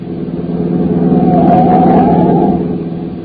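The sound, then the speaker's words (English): A car engine roars, swelling louder as it speeds past on a road, its steady droning tone rising briefly before easing off slightly. No one speaks. “Oh, I say, sir, there's a car coming up behind us like fury.”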